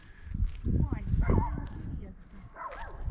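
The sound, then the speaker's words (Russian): A small dog barks and yips in short, excited bursts, with several high-pitched yelps across a few seconds over a background of low rumble and a voice. “Там собачка. Это с собачкой там вступила в перерекание. Маленькой такой собачкой.”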